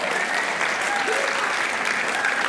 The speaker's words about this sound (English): Okay, I appreciate the applause, but that's just God, because I'm not that smart.